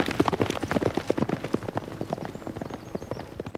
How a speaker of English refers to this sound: Horses gallop on the racetrack as Channing lays the saddle on top of a white trackside fence.